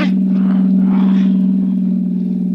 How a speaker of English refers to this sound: Okay, Tannen. Just pull the car to a stop, and don't reach for your gun.